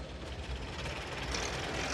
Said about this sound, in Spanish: Mira a través de la ventana enrejada y ve el coche celular entrando en el patio de la prisión.